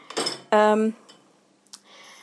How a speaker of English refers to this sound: this is always refilling the dishwasher now, if you're wondering about these other noises like the tap running and things.